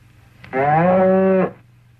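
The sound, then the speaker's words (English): A single loud cow moo lasting about a second, steady and drawn out with a low droning tone, set against a quiet low hum, as the cow is held to be milked. “Be a good cow.”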